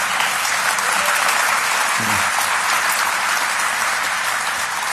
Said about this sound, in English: Thank you. Somebody clap.